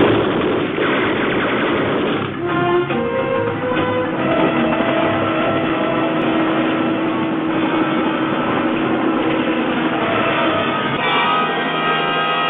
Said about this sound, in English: A wonderful picture, Fahrenheit 451. And yeah, well, just from hearing that, you hear the helicopters and the shotgun, I mean, the machine guns and all that.